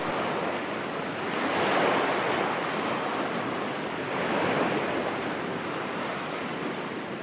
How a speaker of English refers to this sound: she soon came back to enjoy the tranquility of the sound of rushing water from the ocean.